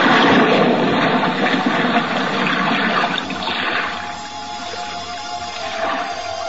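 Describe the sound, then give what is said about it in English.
A loud rush of churning water as a diver holding compact equipment plunges overboard into the sea, settling into a steady muffled underwater wash and bubbling over several seconds, with no voices. “Now, hoist you up and overboard and dive with your compact equipment well in hand into the sea and under it.”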